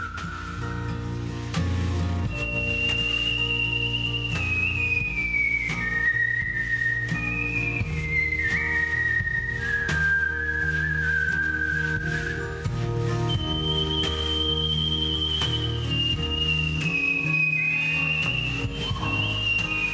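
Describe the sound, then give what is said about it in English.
A clear whistled melody glides and bends over a full band backing, performed live to a full theater, carrying the tune as a solo line with sustained notes and slides, loud and up front throughout. “I did like the whistle solo of the song, and it was to this beautiful full theater, and it was so special.”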